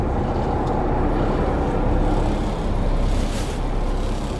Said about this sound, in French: Ah, ça s'appelle, c'est une pompe attelée. C'est entraîné par courroie sur le moteur.